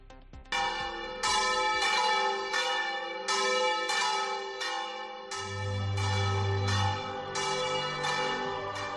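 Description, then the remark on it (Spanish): Church bells ring out in a lively, festive peal for the pilgrimage of the Virgen de la Salud in the diocese of Sigüenza-Guadalajara, Spain, strikes following one another in a steady, rapid rhythm with rich ringing overtones and a deep low hum beneath. No one speaks. “Con ese repique de campanas alegre que suena realmente para toda la feligresía que hay en nuestra diócesis de Sigüenza, Guadalajara y de otros lugares,”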